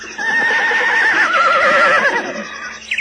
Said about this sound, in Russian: На широком лугу среди леса мы записали нетерпеливое ржание молодой кобылицы, призывавшей жеребеночка.